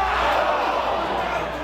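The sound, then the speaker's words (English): A large crowd at City Park roars in a sustained, dense wall of voices, loud and steady throughout with no single voice standing out, as fans react together to the USA's World Cup soccer game against Iran. “And we didn't either when I was in the crowd at City Park this week for the game against Iran.”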